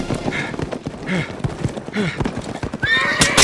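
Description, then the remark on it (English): A horse gallops with rapid, rhythmic hoofbeats, loud, and lets out a sharp whinny near the end. “For only 5 seconds, until the sliced strips of leather finally parted under the strain of the galloping horse, the powerful animal broke away from the rest of the team, carrying”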